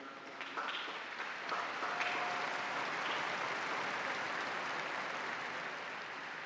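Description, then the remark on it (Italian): Sustained applause from a large crowd for the missionaries, a dense steady clatter of many hands clapping that swells in the first second and holds at full strength, with a few brief whistles or shouts on top. “Grazie tante ai missionari, anche a loro un grande applauso, tutto.”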